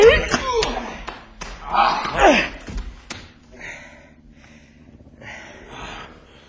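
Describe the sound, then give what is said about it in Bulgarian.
Several heavy thuds of punches land in quick succession amid grunts and gasps as a doctor hits another man, then the scuffle fades into quieter breathing and shuffling. “Докторе, защо удари другаря?”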